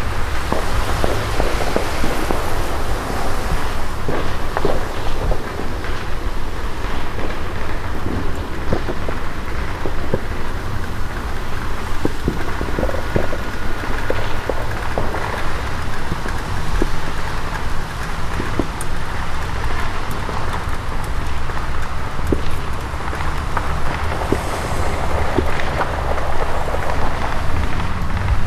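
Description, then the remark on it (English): Light rain falls steadily after a storm has moved through, a soft even hiss scattered with tiny droplet ticks and a faint low rumble underneath, continuing without pause and with no voices. “The storm has pretty much moved through now. It's raining very lightly.”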